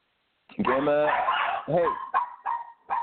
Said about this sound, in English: Sorry, my dogs are going crazy.